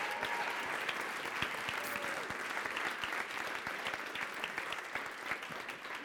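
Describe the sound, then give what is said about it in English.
A large audience applauds nine finalists on a stage, dense overlapping claps forming a loud, continuous wash that holds even for about six seconds with no voices on top. “All right, big round of applause again for everybody on the stage.”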